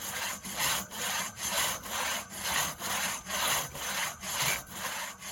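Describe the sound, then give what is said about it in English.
A crosscut hand saw rasps steadily through a log in even back-and-forth strokes, about eleven strokes over five seconds, moderately loud with no voices, used instead of power tools in a wilderness area. “The crosscut is from the Wilderness Act of 1964, when power tools were banned in the wilderness.”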